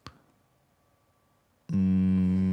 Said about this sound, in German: Was föhnt hier eigentlich? Ist das mein Rechner? Nee. Meiner ist es nicht. Meiner auch nicht. Oh, meiner föhnt. Jetzt sollst du mal den Deckel aufmachen. Wieso föhnt denn meiner?